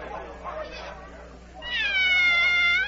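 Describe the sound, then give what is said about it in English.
A single long, drawn-out meow from the Cheshire Cat rings out loud, its pitch wavering, after a second or so of softer, indistinct murmuring. “Oh, it's the Cheshire Cat.”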